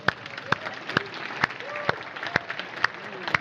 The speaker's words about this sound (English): Okay, everybody, give yourselves a big hand clap. How about give yourselves a big hand clap again?